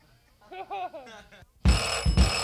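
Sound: bell ringing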